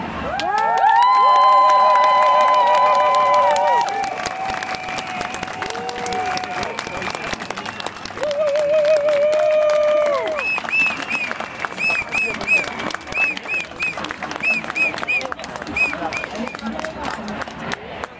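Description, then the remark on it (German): A crowd applauds after a speech, steadily for the whole stretch, with loud cheers, shouts and high whistles rising above the clapping, the noise swelling at the start and again midway. “wirklich herzlichen Dank und nochmal einen ganz tollen Applaus für diese unfassbar tolle Rede.”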